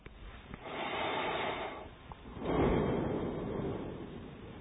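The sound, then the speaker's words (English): Two slow, deep breaths during a guided meditation, a long inhale followed by a long exhale each time, fairly soft with a rushing, airy quality and no talking. “And we'll take a few two or three breaths like that.”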